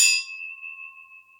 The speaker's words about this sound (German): Die Gläser klingen auf jeden Fall gut. Klingen gut.